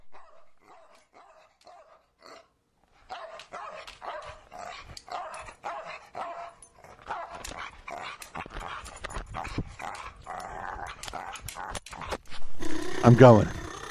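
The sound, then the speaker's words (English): A recording of dogs barking, with rapid, repeated yaps and yelps that start thin and grow denser and louder, ending in a harsh, loud burst of barking and whining. “You let the dog track die down.”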